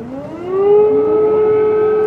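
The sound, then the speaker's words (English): An air raid siren wails steadily in the early morning hours in the capital, Kiev, Ukraine, after Russia's invasion and explosions across the city. Its tone rises in pitch over the first half second, then holds a long, loud sustained note that fills the air. “That is an air raid siren cutting through the early morning hours in the capital, Kiev, after people woke to the sound of explosions across the city.”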